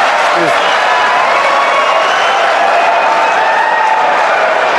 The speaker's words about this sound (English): And then the crowd cheers and laughs. They lap that up. They love it. And the applause goes so long, he finally does a sort of thank you.